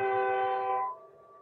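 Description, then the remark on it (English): A loud, sustained train horn from a railroad depot about a block away blares with rich, steady harmonic tones, then cuts out abruptly, leaving a faint lingering hum; no one speaks. “There's a railroad depot about a block from here.”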